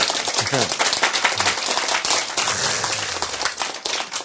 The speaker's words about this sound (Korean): 박수. 네.